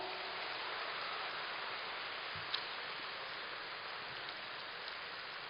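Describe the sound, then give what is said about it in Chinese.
A crowd applauds steadily, a dense, even patter of many hands clapping that holds at a constant level throughout, with no voices over it. “我看你们鼓掌的都是明白人”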